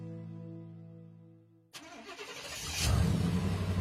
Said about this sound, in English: There goes Pam Yonke across Wisconsin in her suburban truck.